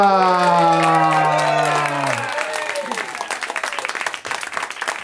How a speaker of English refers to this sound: Listen, the crowd go nuts.